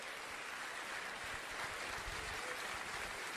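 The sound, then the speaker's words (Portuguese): A crowd claps steadily, applauding Christ. The clapping is a dense, even patter of many hands filling the whole stretch at a constant level, with no voices over it. “Oh, você pode aplaudir a ele, adorar a ele.”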